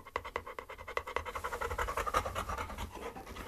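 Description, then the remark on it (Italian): Falco, a two-year-old honey-coloured Labrador, pants steadily, quick rhythmic breaths in and out repeating throughout, breathy and fairly loud, with no talking. “Questo è un Labrador di anni 2, color miele.”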